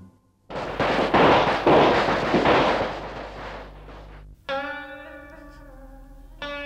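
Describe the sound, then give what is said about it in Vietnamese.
A long, dense string of wedding firecrackers, set off for the procession fetching the bride, crackles and pops loudly for several seconds, then stops abruptly as sustained, bright musical tones begin, with no one speaking. “Nghe tiếng pháo rước dâu anh nhớ thuở hai đứa mình còn nhỏ”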